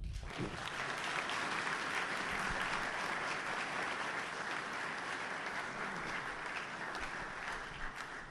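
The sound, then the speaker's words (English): Sustained audience applause, a dense steady wash of many hands clapping at constant loudness for about eight seconds, with no speech over it. “How it's going to work now is let's see after this exercise whether we can justify that sort of applause for you.”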